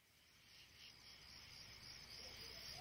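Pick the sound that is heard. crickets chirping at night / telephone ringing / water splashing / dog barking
crickets chirping at night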